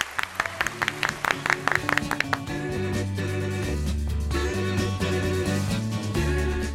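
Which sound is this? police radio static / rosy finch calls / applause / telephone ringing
applause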